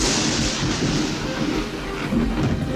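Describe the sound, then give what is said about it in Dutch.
A powerful gunpowder explosion, set off by lighting gunpowder, as eleven full sacks and one nearly empty sack blow up in the Ardennes. It roars and rumbles continuously for a few seconds, a loud, dense, booming wash of noise with no voices present. “De enorme ontploffing plantte zich als een natuurverschijnsel voort tot diep in de dalen en kloven van de Ardennen.”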